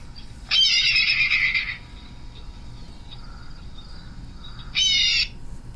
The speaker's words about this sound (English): In fact, the bald eagles, they sound much more, at first when I heard the call, I was like, there's no way this is a bald eagle, because it just doesn't match the physical profile of the bird, the fierce image that you have of it.